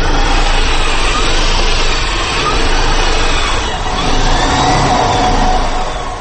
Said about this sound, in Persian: صدای ماشین برقی ایامیدین خیریدین دانشجوی سال چهارم دانشگاه تکنولوژی تاجیکستان را میشنوید که در آزمون عمومی جمهوریوی بهترین اختراکار میان جوانان کشور جای اول را اشغال نمود.